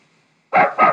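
A dog named Bingo gives two loud barks in quick succession after a brief moment of quiet, with no voices present.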